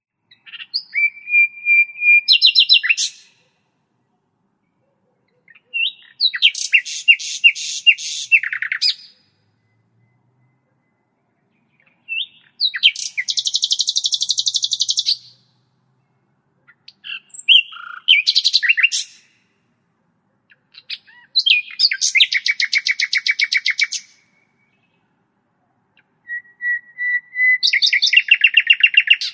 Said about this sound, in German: Und jetzt zum Schluss, ja, kann man auch als König der Singvögel bezeichnen, die Nachtigall, die in Eurasien vorwiegend vorkommt.